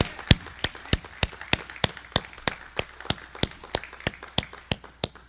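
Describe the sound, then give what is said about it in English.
An audience at a Palm Sunday church service applauds Jesus Christ with crisp claps falling in a steady, even rhythm, roughly three per second, over a faint background wash, with no one speaking. “Let's give the biggest applause that we can give to our Lord and Savior, Jesus Christ, on this Palm Sunday.”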